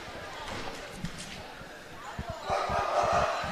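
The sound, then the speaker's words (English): Someone in the Highland student section at a basketball game barks like a dog, a few loud yelping imitations rising over gym noise and chatter, with a basketball bouncing on the court underneath. “Even with the barking of someone in the Highland student section.”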